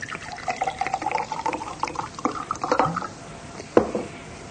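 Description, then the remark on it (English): Liquid pours into a glass with a rising, gurgling tone for a few seconds, followed by a sharp clink and a softer settling splash. “Let me get you a drink”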